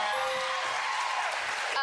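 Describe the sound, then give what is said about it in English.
A voice imitates a cymbal crash with a long, hissy "tsshhh" that stays bright and breathy for almost two seconds, then tails off with a faint second burst at the end. “Cymbals, cymbal crash.”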